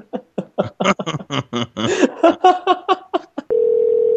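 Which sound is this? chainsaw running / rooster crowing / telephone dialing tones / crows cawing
telephone dialing tones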